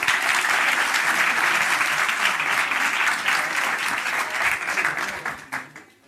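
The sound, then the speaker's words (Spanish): An audience breaks into steady, dense applause for three young volunteers called up on stage, many hands clapping together for about five seconds before it quickly tapers off and fades. “Inmediatamente, un aplauso para estos 3 jóvenes.”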